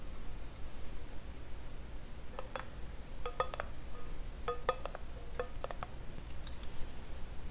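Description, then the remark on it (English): Heavy brass keys jangle in short, irregular bursts of bright metallic clinks, with brief pauses between shakes over a low, steady background hum. “But they're pretty heavy, like brass keys.”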